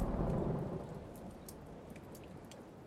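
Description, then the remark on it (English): A low, broad thunder rumble, the final one as a hurricane storm clears, swells at the start and slowly fades, leaving steady soft rain falling on Roosevelt Beach, pattering with occasional brighter drips, no voices present. “The moon shines through the eye of the hurricane as there's a final rumble of thunder and soft rain falls on Roosevelt Beach.”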